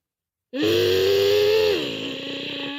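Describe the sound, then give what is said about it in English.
A child's voice imitates the engine of a toy flatbed tow truck with a brown cab carrying a car, a loud, buzzy, sustained hum lasting about two seconds, holding a steady pitch before dropping lower and continuing as a rougher rumble. “That's like a race car noise.”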